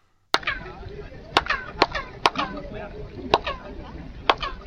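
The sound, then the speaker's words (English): Six sharp handclaps at irregular intervals at a Mayan pyramid, each followed by a quick, high, downward-sweeping chirp echo off the pyramid steps, the 'ping' ringing briefly before fading, over a steady busy background hum. “And that was just from clapping your hands and that little ping happened.”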